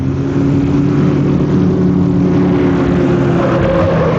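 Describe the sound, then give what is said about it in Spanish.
A loud, steady engine roar drones on without pause: a car with broken brakes racing out of control at high speed, winding along a road, with a constant mechanical hum and no voices. “El auto está sin control. A velocidad vertiginosa serpentea por la carretera.”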